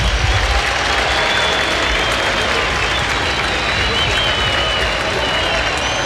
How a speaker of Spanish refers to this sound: Finalmente el futbolista Barrera juega Wanderers, cambio en la U, se va Elías Rojas. Escuchen los aplausos.